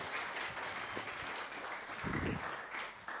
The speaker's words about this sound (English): Yeah, you can clap again. Come on.